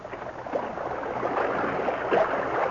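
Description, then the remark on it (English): Steady rushing, sloshing water of a man wading knee-deep into a stream to retrieve a floating bottle, with a couple of brief splashy surges. Moderately loud, no voices. “The Lone Ranger waded into the water knee-deep, secured the bottle, and returned to Tonto's side.”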